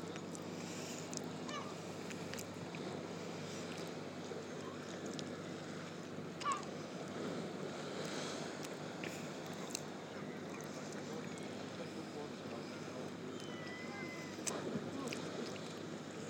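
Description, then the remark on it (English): Waves slap against a sea wall in a steady, rushing wash of water, with a few sharper splashes now and then, heard outdoors with faint wind and birds. “Hit water. Yeah. Is it hitting wall?”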